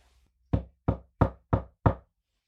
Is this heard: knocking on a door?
yes